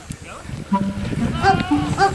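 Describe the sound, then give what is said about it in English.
A goat bleats loudly in a few strained, wavering cries that sound strikingly like a person yelling for help, with no one talking. “Your goat sounds like a human yelling for help.”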